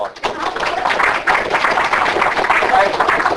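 An audience applauds an emeritus member and past president of 39 years, a dense wash of many hands clapping at once that holds loud and even for a few seconds with no pauses.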